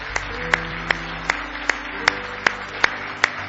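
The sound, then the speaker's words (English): A church audience claps hands in praise of the Lord in steady unison, about nine sharp claps on an even beat, over a low hum with no talking. “Give the Lord another big hand clap of praise this morning.”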